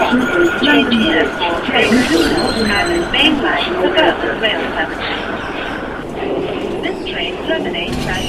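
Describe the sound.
A train sits at a busy station platform, a steady mechanical rumble with high squealing tones, while voices murmur indistinctly in the echoing space around it.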